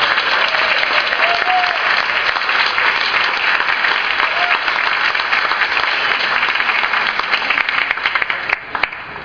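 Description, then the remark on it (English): A crowd bursts into sustained, loud applause for a polka musician, dense clapping continuing steadily for several seconds before beginning to thin out near the end. “So first of all, let's have a big round of applause for my father right there.”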